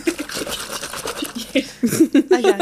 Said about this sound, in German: Nicht die Flasche aufmachen. Ist nicht der Tonic gewesen, ich habe nur den Gin geschüttelt.